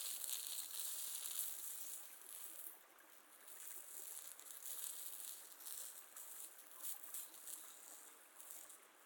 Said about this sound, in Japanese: 残った泡が私の手で潰れて、シュワシュワって気持ちいい音がしますぞ。